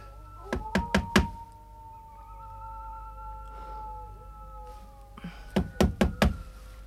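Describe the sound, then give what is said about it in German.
Two bursts of firm knocking on the open front door of a house, four quick raps, a pause with a faint drawn-out whine, then five more raps, fairly loud, with no talking. “Ach, trotzdem klopf lieber an,”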